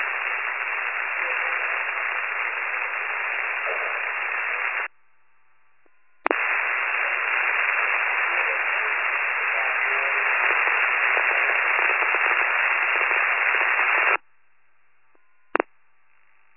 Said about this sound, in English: But it's all static.